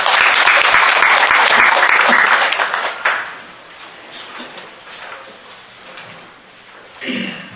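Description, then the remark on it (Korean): A crowd at a debate on the Yongsan tragedy breaks into loud, dense applause welcoming Democratic Party leader Chung Sye-kyun; it holds steady for a few seconds, then quickly tapers off into quiet, with a brief soft rustle near the end. “큰 박수로 맞이하시기 바랍니다.”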